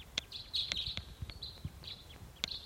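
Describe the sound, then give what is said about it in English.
A wild bird calls faintly in the distance, a thin, high chirping note repeated on and off, over scattered low clicks and knocks, with no one talking. “Pointing at the wild bird, it's off in the distance.”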